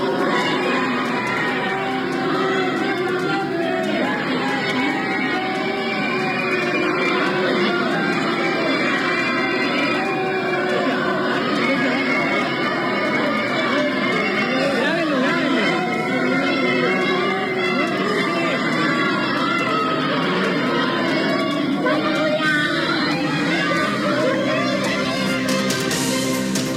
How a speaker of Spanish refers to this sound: Son gritos, distintas consignas en contra de la diputada. Nosotros nos encontrábamos en el exterior de la Facultad de Derecho, en donde escuchamos por bastantes minutos los gritos de los asistentes y de los mismos estudiantes